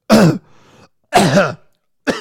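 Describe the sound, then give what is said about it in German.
A person imitates a cough with three loud, rough bursts, two fuller ones about a second apart and a clipped third, voiced and throaty rather than a natural cough. “Da wird auch mal gehustet, mal genießt und so.”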